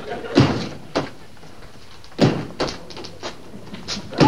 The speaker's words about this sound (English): What are you doing in there? I'm putting a new bulb in the refrigerator. I can't have you groping around in the dark.